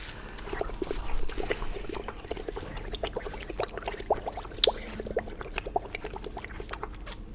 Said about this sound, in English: Smells like coffee and water is boiling.